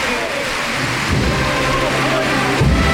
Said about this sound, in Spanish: Pero ha sido nada más que despedir la conexión y empezar a llover aquí en el... En el Porvenir.